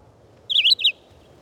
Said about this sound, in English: The abundant red-eyed vireos in the treetops can become monotonous in the regularity of their short, robin-like phrases.